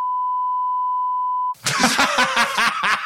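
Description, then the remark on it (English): A loud, steady censor bleep holds one pitch for about a second and a half, then cuts off abruptly into lively vocal sounds resembling laughter. “You have to beep all of that.”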